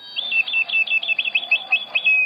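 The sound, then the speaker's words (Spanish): A knife sharpener's street call: a quick run of shrill, whistled notes sliding up and down a scale, repeated several times, clear with no talking. “Por ejemplo, cómo se anunciaba el afilador o el señor que llegaba anunciando la melcocha.”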